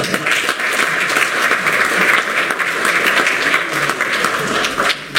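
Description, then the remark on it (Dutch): Steady applause from a crowd after a new municipal council member takes the oath, a dense crackle of many clapping hands holding at a fairly loud, even level for about five seconds with no voices over it. “Applaus maar hoor.”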